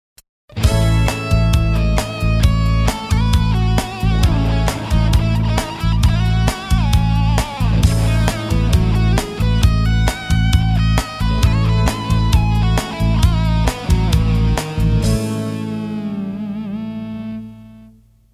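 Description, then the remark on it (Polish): A melody climbs and descends through a Lydian scale in a steady, even rhythm over a sustained A major chord, then the final chord rings out and fades. No voices. “W następnej skali, lidyjskiej, możemy usłyszeć motywy góralskie i choć różni się ona nieco w konstrukcji od skali góralskiej, jej charakter jest trochę podobny.”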